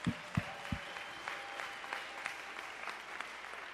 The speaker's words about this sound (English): All of y'all did awesome. I mean, give them a round of applause again, guys. Come on.